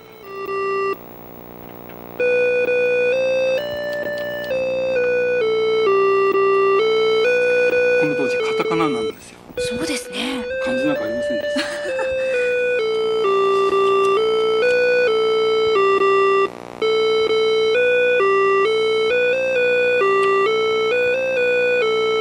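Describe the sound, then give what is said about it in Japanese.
Opening demo software on a Sharp retro computer, installed from cassette tape, plays a steady, buzzy electronic melody of sustained stepping tones, with a warbling, noisier stretch in the middle and a few spoken words over it. “いや、これは今プログラムが動いてるオープニング の、 デモ用のソフトですね。”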